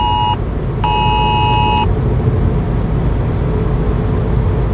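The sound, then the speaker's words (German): A phone hazard warning alert sounds two loud, buzzy harmonic tones, a short one and then a longer one lasting about a second, over a steady low rumble of vehicle noise while driving. “Ich habe irgendeine Gefahreninformation hier.”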